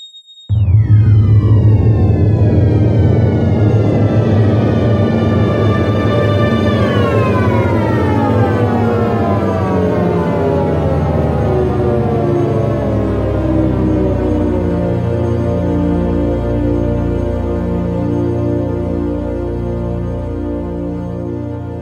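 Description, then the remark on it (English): A simulated Big Bang sound: a loud synthesized roar whose layered tones sweep steeply downward in pitch, then settle into a deep, steady rumbling drone that pulses slightly and fades a little at the end. “And here is the Big Bang all over again.”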